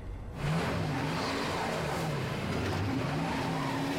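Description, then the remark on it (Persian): A car stuck in snow revs its engine steadily with a wavering drone as the wheels spin and whine; loud and continuous after a brief quiet start, with no voices. “توی برف گیر کردی؟”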